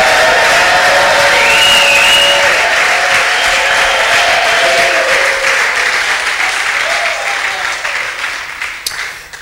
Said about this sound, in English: If you agree with me that the resurrection of Christ is fundamental to our faith and the cornerstone of our faith and the foundation and the bedrock of our faith, can you help me thank God with a big clap and a loud shout to his glory?